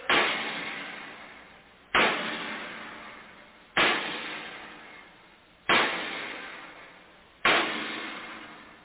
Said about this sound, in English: The bolts, the wing bolts, they hold the door shut. They have to be tightened by hammering with the sledge.